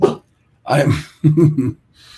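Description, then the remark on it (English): A dog makes a few short, throaty vocal noises, three brief bursts of grumbling and whining separated by pauses, fairly loud with faint hiss after. “I have the big boy here next to me, and he's ready to start barking.”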